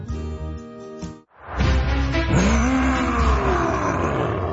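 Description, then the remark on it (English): A brief steady tone cuts off, then a loud monster roar bursts in and rumbles for several seconds, a growling bellow with a pitch that swoops downward, with no talking over it. “Oh, hello, scary monster from my nightmares.”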